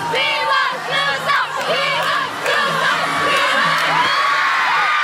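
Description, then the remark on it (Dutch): A large concert crowd of fans screams and shrieks continuously as a band steps onto a stage in Kesselo in 1989, many high voices overlapping in a loud, sustained wall of excited yelling with no pauses. “We zijn op een bepaald moment, in 89 was dat, in Kesselo, op een podium gestapt en iedereen begon te gillen.”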